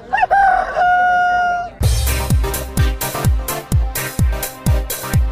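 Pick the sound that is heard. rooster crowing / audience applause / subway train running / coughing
rooster crowing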